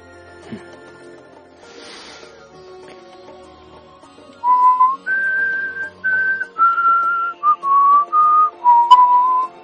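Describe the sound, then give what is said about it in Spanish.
After a few seconds of quiet background noise, someone whistles a simple melody, a string of clear sustained notes stepping up and down in pitch, ending with a brief wavering flourish. “La única licencia artística que me permito es la de silbar.”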